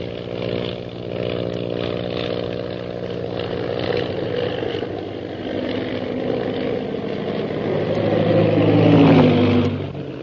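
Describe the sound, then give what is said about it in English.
A droning aircraft engine with a buzzing, harmonic tone holds steady, then swells louder and whines upward in pitch toward the end as Shanghai Lil's plane rocks and goes into a spin, dropping toward the ocean. No voices. “Suddenly, Shanghai Lil's plane rocks crazily and goes into a spin, dropping swiftly toward the ocean below.”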